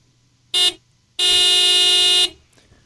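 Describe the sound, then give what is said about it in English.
A car horn sounds twice: a short beep, then a longer sustained honk lasting about a second, both loud and steady-pitched over faint background rumble. “We're beeping over to Harlow's.”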